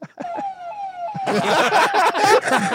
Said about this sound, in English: Look at the Lambo police car, bro. That's ridiculous.